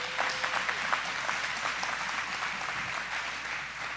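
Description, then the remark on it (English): A crowd claps steadily for about four seconds for news that citywide figures are down 15.5% year to date, a dense, even patter of many hands at moderate loudness with no voices rising above it. “So can I get a round of applause for that?”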